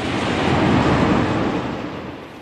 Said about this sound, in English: The American Jet airliner lifts off of the runway.